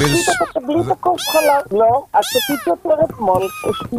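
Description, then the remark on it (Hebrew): Several cats meow loudly, one plaintive, rising-and-falling cry after another with barely a pause, their voices overlapping in a restless chorus. “תעשי טובה, תשתיקי אותם שם,”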